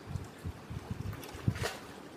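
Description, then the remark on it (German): Indian Ocean water at the Maldives sloshes and laps in uneven, low rumbling surges, with a brighter wash of spray around the middle, all under a steady hiss of wind. No one speaks. “Du hörst also gerade den Indischen Ozean.”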